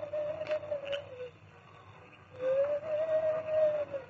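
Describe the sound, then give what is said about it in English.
Two long, steady, mid-pitched hoots, the masked Lone Ranger imitating an owl as a signal to Tonto, who is held in a hideout shack, separated by a short pause over a low background hum; the second call is louder and slightly longer. “In the front room of the hideout, Carl Pender had also heard the owl hoot.”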